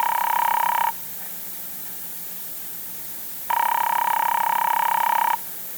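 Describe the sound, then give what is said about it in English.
A telephone ringback tone heard through the earpiece as a man calls his son's private number at the airport: two long buzzing rings separated by a pause of silence, steady and fairly loud, with no voices. “Father Barber turns at once to the phone and calls Paul's private number at the airport.”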